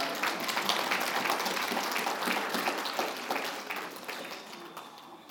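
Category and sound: crowd, audience clapping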